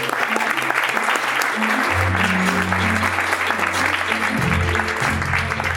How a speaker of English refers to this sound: Ladies and gentlemen, round of applause for my mentor